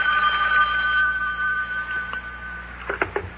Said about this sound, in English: Uh-oh, telephone's ringing.